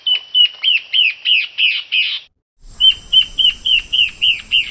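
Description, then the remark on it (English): Two antbird territorial songs back to back, from the yellow-breasted antbird and the Peruvian antbird, each a rapid series of about eight clear, whistled notes around a steady pitch; the second is slightly noisier with a faint background hiss. “But as you can hear, the songs sound very similar.”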